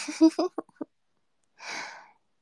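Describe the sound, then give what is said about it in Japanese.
A few short voiced vocal sounds, then after a brief pause a soft, breathy exhale like the tail end of a yawn, fairly quiet. “あくび映った？”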